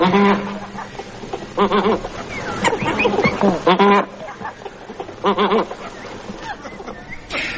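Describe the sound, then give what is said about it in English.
Snow geese (Anser hyperboreus) call in a busy, overlapping chorus of nasal honks and yelps, rising in loud clustered bursts against a steady background of softer cackling from the flock. “I can give you its Latin name, Ansa Hyperboreus.”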